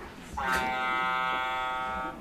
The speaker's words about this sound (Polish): Statek.